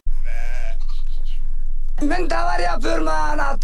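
Sheep from a flock belonging to Turkish herders, tended by an Afghan shepherd in the high mountain valleys of Anatolia in eastern Turkey, bleat. Their wavering cries overlap, first a single call and then a louder, busier chorus from the flock.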